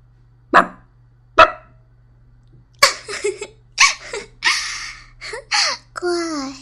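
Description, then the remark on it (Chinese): A person imitates a dog with two short, sharp barks, then a quicker run of yelping, whimpering dog-like noises, all fairly loud against a quiet background. “学两声狗叫，我听听。”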